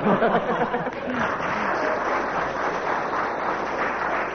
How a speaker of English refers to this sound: And a ripple of applause there, but only 1 mark.